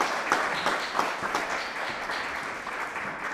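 An audience at a musical afternoon for WGXC radio station applauds a singer, a dense wash of many hands clapping at an even, moderate loudness for a few seconds, with a few sharper claps standing out early on.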